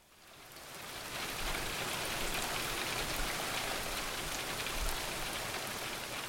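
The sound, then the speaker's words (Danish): Steady rain pours down, a dense continuous hiss of drops spattering on surfaces that swells in over the first second and holds evenly, with no voices. “Nej, tillader de, sagde regnvejret. Nu er det min tur.”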